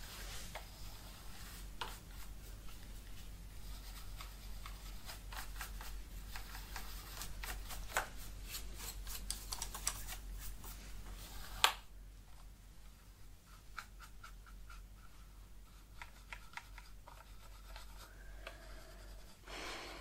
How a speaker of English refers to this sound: Okay. So what I'm going to be doing with the keyboard, it's... I have a brush with me. I'm just going to be... starting by dusting the keyboard.